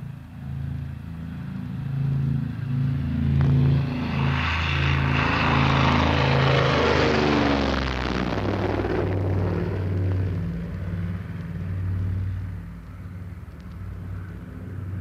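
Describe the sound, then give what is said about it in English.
An airplane taking off from Boston and climbing out over the sea before turning back, on a very hot day: a loud, steady propeller-engine drone with low humming tones, while a rushing roar swells over the first half and then slowly eases, no voices. “Boston takeoff, and in a flash we're over the sea and turning back as we climb.”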